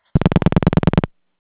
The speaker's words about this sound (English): Yeah, it sounds like someone's dialing out. If you could mute your phone.